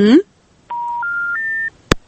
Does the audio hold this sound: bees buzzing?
no